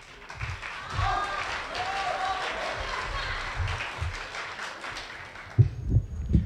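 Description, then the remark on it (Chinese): An audience at a crosstalk (xiangsheng) show applauds performers Yue Yunpeng and Shi Aidong for the piece 'Shuang Zi Yi': steady, dense overlapping clapping filling all six seconds, with faint cheering voices mixed in early and a few heavier low thumps near the end. “谢谢谢谢， 哎， 谢 谢 您， 掌声欢迎， 激情四溢的掌声， 还激情四溢啊！”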